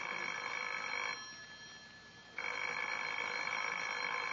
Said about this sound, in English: Well, answer the phone, Lancelot.